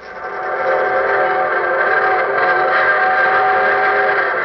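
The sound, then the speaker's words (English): An evening steam train whistles for Hunter's Bottom in one long, sustained, chord-like wail that swells in quickly and holds steady and loud throughout, with no voices. “There's the evening train whistling for Hunter's Bottom.”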